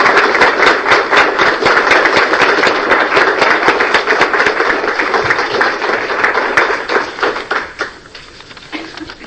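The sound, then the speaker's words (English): A crowd claps for a newly married bride and groom, steadily in a dense round of applause, many hands blending into a continuous patter that holds strong for most of the time, then thins into scattered claps and fades out. “Big round of applause and congratulations”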